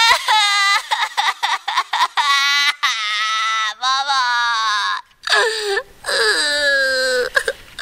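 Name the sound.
child crying and wailing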